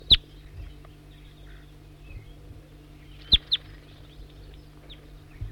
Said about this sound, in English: Going back to that same service barrier he was in before. Stop. Start recording the wild bird again.